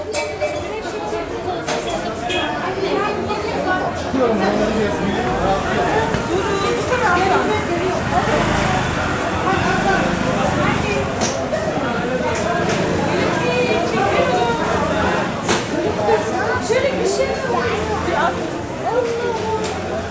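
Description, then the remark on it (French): A dense, continuous wash of crowd chatter fills the space, many overlapping voices murmuring at once with occasional louder calls and clatter at a busy open-air market, with people shouting to sell their goods. “mais c'est quand on vit là-bas, parce qu'on a le soleil, les bruits, les oiseaux qui chantent, des gens qui crient pour vendre leurs marchandises. Et puis, c'est agitation aussi, et un monde fou.”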